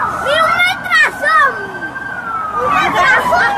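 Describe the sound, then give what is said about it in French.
Wailing sirens sweep up and down over a sustained tone amid a chaotic scene, with voices shouting and crowd noise throughout, the commotion swelling again toward the end, during a drone attack on a military parade on 4 August in Venezuela, in the presence of President Nicolás Maduro. “Ce que vous entendez est l'attaque par un drone lors d'un défilé militaire le 4 août dernier au Venezuela, en présence du président Nicolas Maduro.”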